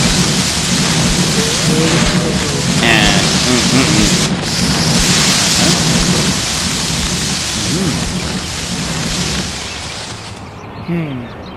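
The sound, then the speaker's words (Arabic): A water fire extinguisher, its pin pulled and hose aimed at a fire, sprays in a loud, steady rushing hiss for about ten seconds before cutting off abruptly, with faint voices murmuring beneath the noise. “تسحبون المسمار وتمسكون المفتاح بيد والأنبوبة باليد الأخرى وتوجهون المياه نحو النار.”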